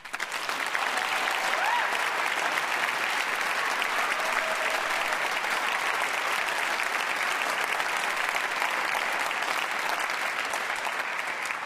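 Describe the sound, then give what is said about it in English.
Sustained audience applause welcoming a cellist, a dense steady wash of many hands clapping at even loudness for about twelve seconds, with no speech over it. “We applaud you for that.”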